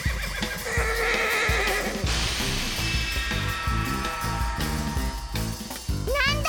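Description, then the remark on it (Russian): A horse whinnies loudly, its shrill, wavering neigh rising and falling over a busy, rhythmic backdrop, with a final high-pitched whinny at the end. “Лошадь.”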